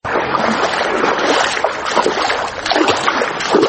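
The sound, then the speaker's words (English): Continuous sloshing and splashing of water as a 23-year-old woman wades through knee-high floodwater on the flooded main street of Bor Town in Jonglei state, steady churning with small surges and no voices. “wades through knee-high water on a flooded street.”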